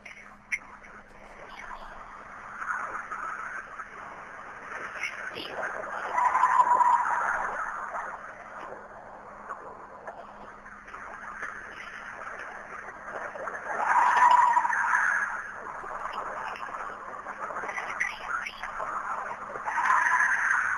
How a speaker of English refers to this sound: And this is supposedly what a Bigfoot's shrieks or howls sounds like. So take a listen to this.